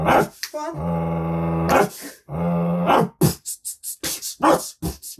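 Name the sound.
dog barking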